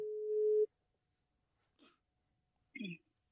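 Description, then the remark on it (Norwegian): A telephone ringback tone, heard while placing a call, sounds once as a steady, low-pitched hum lasting about half a second, then cuts to silence before a couple of short bursts of a voice come through. “Jeg ringer nå.”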